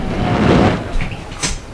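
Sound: door being opened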